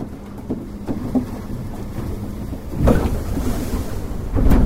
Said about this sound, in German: Es ist kalt und windig hier im Süden von Chile. Direkt am Pazifik im Küstenort Puñihuil peitschen die Wellen gegen die kleinen Fischerboote. Sie transportieren aber keinen Fisch, sondern Touristen, die sich die Magellan- und Humboldt-Pinguine ansehen